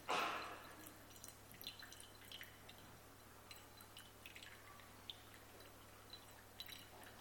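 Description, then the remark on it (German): A brief rush of water poured into a bowl at the start gives way to scattered, irregular drips falling into it, quiet, with no voices. “Und ich habe das gestern schon mal probiert und habe gedacht, meine Güte, man hört gar nicht auf zu gießen.”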